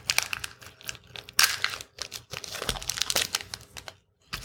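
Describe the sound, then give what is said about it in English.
Crinkling and crackling of the wrapper of a Wine Bar Chardonnay white chocolate bar being torn open, a busy run of sharp plastic rustles and rips that briefly goes quiet near the end. “It wouldn't open. Okay, so I'm going to have to be forced to go grab the scissors.”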